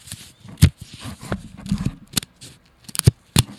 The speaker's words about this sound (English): Pick a card, any card. And I'm going to shuffle it. I'm going to shuffle it. Let me see if I can shuffle these cards.